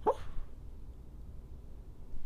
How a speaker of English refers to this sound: Oh, my dog's talking. Do you hear him?